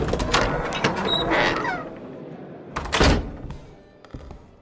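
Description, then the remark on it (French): A heavy door leading to the Smala room opens with a solid thunk, followed by mechanical rattling and a second loud knock as it swings; the sounds are fairly loud, with no talking. “Sauf erreur, cette porte mène justement à la salle de la Smala.”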